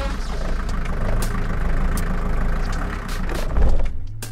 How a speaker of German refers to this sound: Na, kennt ihr noch dieses Geräusch? Das ist der Hü-Wagen, mein altes 80er-Jahre-Hümermobil. Mein Wohnmobil, in dem ich diese Sendung, eine Stunde Netz basteln, im Sommer immer aufzeichne.